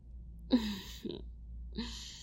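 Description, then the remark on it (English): A big, drawn-out yawn with a low voiced groan, followed by a short breathy catch and another long airy exhale. It's fairly soft, with no speech. “That's a big yawn, kitten.”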